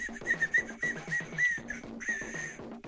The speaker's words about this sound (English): it's like a party whistle. You know why it's like a party whistle? Hold on, I got another party whistle.